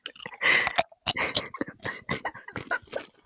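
Crunchy bites into a Dorito tortilla chip: loud, dry crackling bursts in an irregular chewing rhythm that carries on for several seconds with no talking.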